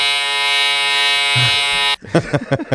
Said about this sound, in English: It's just my electric toothbrush.